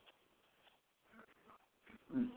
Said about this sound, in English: Things you do to try to get your dog to calm down, and at times, they just, like they made in their own world.